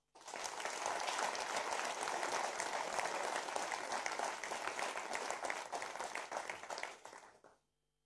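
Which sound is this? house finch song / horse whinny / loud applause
loud applause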